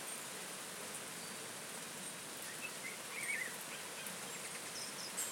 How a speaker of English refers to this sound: This is what you call rain.